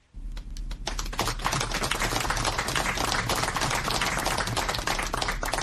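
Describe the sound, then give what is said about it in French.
A dense, sustained burst of applause from a large crowd, including two ministers and ruling RDPC party activists, in Yaoundé, Cameroon, greeting the arrival of Lagdo mayor Maman Abakaï and 10 other freed hostages; many hands clapping rapidly and continuously, loud and steady with no voices standing out. “C'est une foule parmi laquelle deux ministres et les militants du RDPC parti au pouvoir qui applaudit l'arrivée de Maman Abakaï, maire de Lagdo, et 10 autres anciens otages à Yaoundé.”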